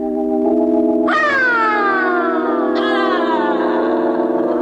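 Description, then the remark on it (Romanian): A magic whistle, given by the fairy Zâna Zinelor, sounds twice, each blast a bright, shrill tone that swoops down in pitch, ringing over a steady low humming drone. No one speaks. “Îmi dai și mie fluierul fermecat, Pepelea?”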